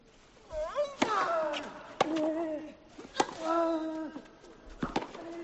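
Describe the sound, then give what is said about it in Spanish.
Four sharp, crisp thwacks of a tennis ball being struck in a rally between Rafa Nadal and Dominic Thiem on the Philippe Chatrier court, spaced about a second apart, with loud vocal grunts and voices sounding between the hits. “Estáis sentados en primera fila, vais a oír el tenis como solo se oye en Tiempo de Juego.”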